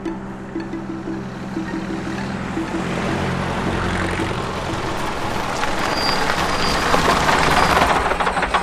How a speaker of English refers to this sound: He doesn't see Mickey's lorry pass uncertainly over the ford.